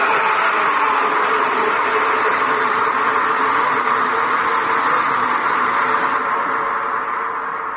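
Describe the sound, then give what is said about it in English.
A person voices a loud, rasping monster roar, one long continuous bellow held steadily for several seconds, harsh, with no talking. “So when you roar, it all bursts out! And the roar sounds like this!”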